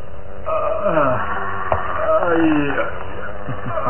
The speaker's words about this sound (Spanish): Solo se escuchan gemidos que más parecen gruñidos de fiera de lamentos humanos.